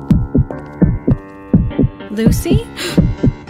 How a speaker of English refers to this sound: Ugh, the heartbeat. It's back.